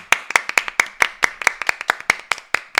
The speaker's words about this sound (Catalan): Per favor. Hauríem de rebre-la amb un gran aplaudiment a l'Aurora. Fem un aplaudiment.